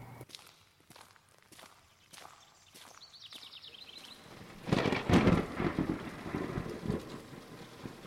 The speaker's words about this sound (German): Aber hören Sie mal, da kommt ein Gewitter, also ich spüre das einfach.